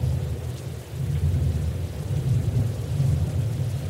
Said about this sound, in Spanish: Mantenemos sana distancia y esperamos a que pase la lluvia.